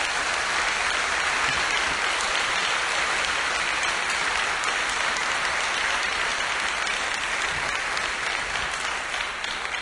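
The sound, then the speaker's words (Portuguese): A church audience applauds the Lord for the glory of God, a dense, even wash of many hands clapping at once that holds at the same loud level for the whole stretch, with no voices standing out. “Então, para a glória de Deus, aplauda o Senhor nessa hora.”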